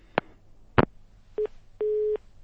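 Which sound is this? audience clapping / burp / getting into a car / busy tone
busy tone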